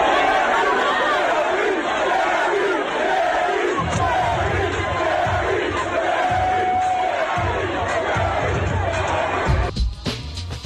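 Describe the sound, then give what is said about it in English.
A large baseball crowd at Guaranteed Rate Field chants "Jerry, Jerry" loudly and steadily in rhythmic unison, repeating the two-beat name over a wash of cheering, with the roar swelling and continuing throughout. “That is a crowd at Guaranteed Rate Field chanting Jerry, Jerry, as in Jerry Springer.”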